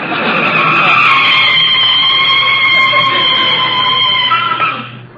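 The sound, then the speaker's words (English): A car brakes hard with a long, loud tire squeal, the screeching holding steady for several seconds before tapering off as the vehicle comes to a stop in front of a house. “You can start putting on the brakes.”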